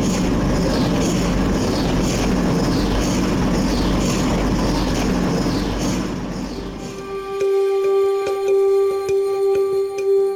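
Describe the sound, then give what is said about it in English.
A big white cylindrical MRI machine in a hospital pulses with a loud, rhythmic whooshing roar that swells and falls in regular waves, then shifts abruptly into a steady, high electronic drone with buzzing overtones. “In the middle of the room is a big white cylindrical machine that makes this strange pulsating noise. It almost sounds like it's breathing.”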